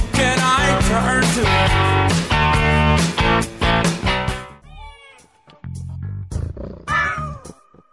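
Loud, busy music plays and then cuts off, leaving a cat meowing twice in the quieter stretch that follows, the meows clear, with no one talking.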